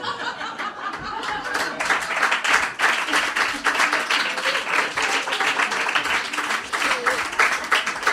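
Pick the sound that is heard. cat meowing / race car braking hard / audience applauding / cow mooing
audience applauding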